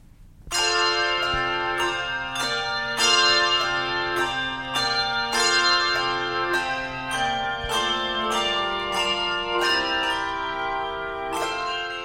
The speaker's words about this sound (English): And finally today, this holiday audio postcard from the …. And we perform on a 6-octave range of bells. So we have from G2 all the way up to G8.